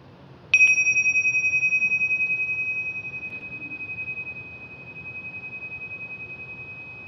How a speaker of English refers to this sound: Listening to the sound of the gong.